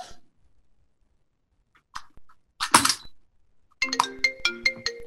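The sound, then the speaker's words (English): A telephone ringtone starts near the end, a loud run of bright electronic tones pulsing in quick rhythm, after a few soft clicks and a short rustling burst. “Who is trying to call me?”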